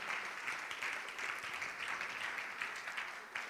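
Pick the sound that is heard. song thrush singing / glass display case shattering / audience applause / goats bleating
audience applause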